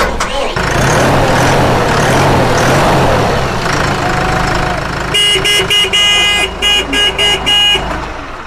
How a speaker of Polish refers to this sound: Krótki instruktaż, jak uruchomić ciągnik. No to weź, wprowadź na luz, żeby było i odpalcie go, dobra?